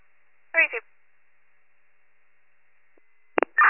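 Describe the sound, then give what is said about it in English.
A short burst of radio voice, then quiet with a faint steady hum, before a loud beep and the start of a strong, sustained Warren County fire dispatch alert tone for Station 84, for a two-story residential structure fire, at the very end. “Can you put those tones out again for my station?”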